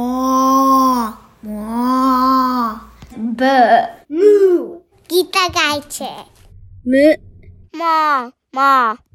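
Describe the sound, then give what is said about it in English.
Children's voices take turns imitating a cow's moo as said in other languages: two long, drawn-out lowing calls first, then a quick series of shorter, pitch-bending moo sounds with brief pauses between. “So let's hear if cows say equally funny things in other languages.”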